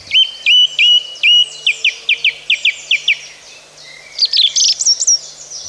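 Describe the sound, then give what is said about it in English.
Song thrush song with repeating phrases: clear, loud whistled notes repeated in quick series, a run of sharp chirps, then a higher ringing flourish, with no talking. “The song thrush is a small, familiar songbird commonly found in parks, gardens, woodland and scrub.”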